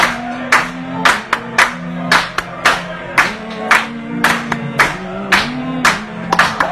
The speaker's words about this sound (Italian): Battiamoli le mani ancora.